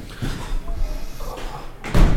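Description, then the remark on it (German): A window is pushed shut, with scraping and handling noises before it closes firmly with a solid thud near the end. “Mal soll ich das Fenster zumachen?”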